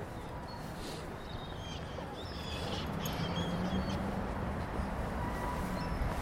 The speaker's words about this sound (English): Should we listen to this bird in the left, yeah? Okay. Are they just seagulls? They are. They are.